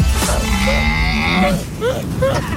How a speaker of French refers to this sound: Alors là, vous entendez des cris de chameau dromadaire. On va demander si c'est vraiment ça.